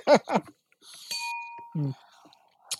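Glasses clink once in a toast, a bright ringing tone that hangs and fades for about half a second, following brief voices and with more talk after.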